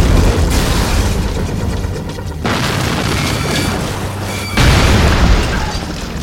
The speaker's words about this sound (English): He lit off another stinger and put it right up the pipe of the chopper's right engine.